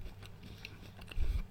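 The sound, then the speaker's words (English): Soft chewing with a few faint moist clicks and a low muffled crunch near the end, quiet and with no talking. “Can you hear the sound of me chewing?”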